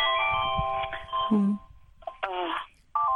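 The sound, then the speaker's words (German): A telephone rings with steady electronic tones in long bursts separated by short gaps, with a faint murmur of voices underneath. “Das ist, glaube ich, das Telefon, das im Hintergrund klingelt.”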